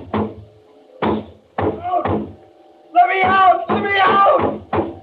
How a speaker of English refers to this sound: I went to the door, banged on it.